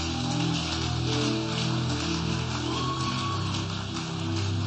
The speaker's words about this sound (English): Clap for Jesus.